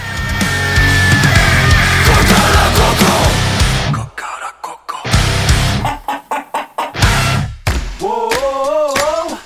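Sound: rooster crowing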